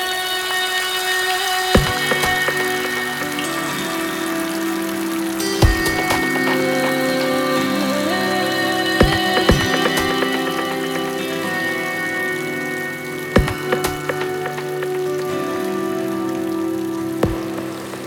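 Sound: rain falling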